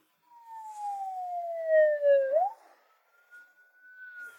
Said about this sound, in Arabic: هذه سيارة إسعاف، وهي تسرع إلى مكان الاستدعاء. أضاءت صافرة الإنذار حتى تفسح لها السيارات الطريق.